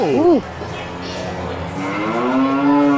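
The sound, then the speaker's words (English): A cow moos with a long, drawn-out lowing call that rises and holds steady, loud, preceded by a brief wavering vocal sound. No one speaks. “I love the cows.”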